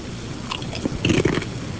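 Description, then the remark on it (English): A crisp bite followed by a few crunchy chewing sounds, loud, with a faint background hum and no talking, as a man eats something that had been stuck to a wall at a radio station, putting the whole thing in his mouth. “Crunchy.”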